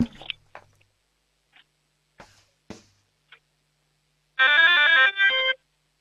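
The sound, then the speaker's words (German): A few faint clicks and taps, then an 8-year-old child from the state of Vorarlberg loudly imitates a doorbell: a bright, ringing chime with stepping pitch lasting about a second, briefly breaking before a short final tone. “Das ist ja eine mega coole Türglocke.”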